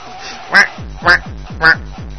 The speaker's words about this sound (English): Just loud quack out of Shatner's ass. Even his farts have pauses.